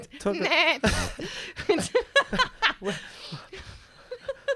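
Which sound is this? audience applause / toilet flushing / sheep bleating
sheep bleating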